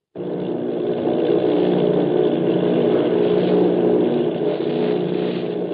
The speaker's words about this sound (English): Listen to this. The voice of the crew sounds like it is on some kind of two-way radio device, but the sounds of the aircraft engines? Those sound as if we are hearing them from inside the aircraft in real-life sound.